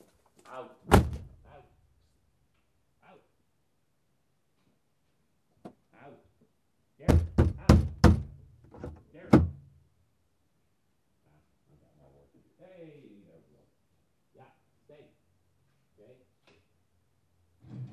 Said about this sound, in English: Okay, sorry about that. Gotta get the garage door closed.